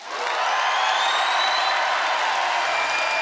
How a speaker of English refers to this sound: Nice applause on both sides.